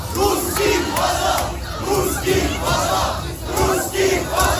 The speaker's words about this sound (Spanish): Mira, este es el sonido del metro de Budapest. Gritan rusos a casa, una vieja consigna de cuando se rebelaron contra la bota soviética en 1956.